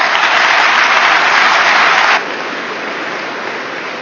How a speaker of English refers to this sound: So big, quick applause.